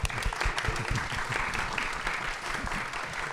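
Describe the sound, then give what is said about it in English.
An audience at an evening poetry event claps steadily, a dense patter of hands at moderate loudness, with no one speaking over it, applauding the editors of an anthology of poems by LGBTQ authors. “the editors of Lifeboat Press, who deserve a round of applause for taking this on.”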